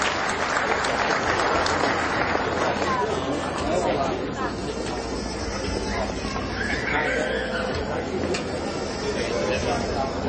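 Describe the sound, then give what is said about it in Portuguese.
Sustained audience applause at a ceremony honouring recipients of a title and a merit commendation fills the whole stretch, a dense, steady clatter of many hands clapping at an even loudness, with a murmur of crowd voices mixed underneath. “Uma salva de palmas.”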